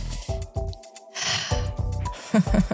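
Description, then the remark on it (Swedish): Loud breathing right against the microphone in a studio: several heavy, rough inhales and exhales in quick succession, a little snort-like, with no talking. “Alltså, ska alltid så andas i micken som ett slisk.”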